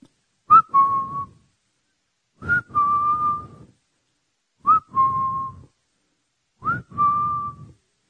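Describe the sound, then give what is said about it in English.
A person whistles four times, each a quick rising chirp followed by a held, steady note, evenly spaced about two seconds apart, clear with no talking. “God's whistling for the lions from Judah to come forth. He's whistling.”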